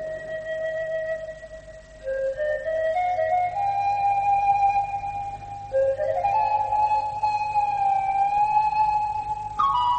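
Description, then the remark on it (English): Police sirens wail steadily, their high tones stepping up and sliding back down in pitch over and over. The sound stays loud throughout, with no voices. “Yes, I was just passing when I heard the sirens.”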